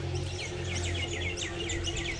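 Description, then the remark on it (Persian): Birds chirp and sing continuously in quick, overlapping trills and tweets over a steady low hum in the background with no talking. “صدای خوشی دارن، آدم دلش نمیستشون قطع کنه.”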